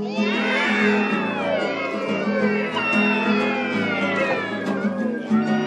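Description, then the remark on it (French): A crowd of voices imitates cats meowing all at once on request, a loud, overlapping chorus of wavering mews and yowls that continues steadily for several seconds. “Maintenant, j'aimerais bien le chat.”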